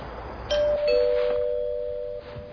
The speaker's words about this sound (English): What was that? The doorbell rang. Why did the doorbell ring? Because someone's at the door.